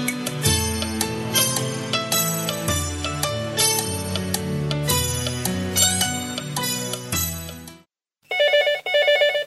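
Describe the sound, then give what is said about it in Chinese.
A phone rings for an incoming call: a bright, busy musical ringtone plays loud for several seconds, then after a brief pause two short bursts of a trilling electronic ring follow. “喂，又是哪个孙子给爷打电话呀？想让我接电话呀？”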